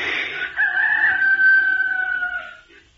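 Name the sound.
imitated rooster crowing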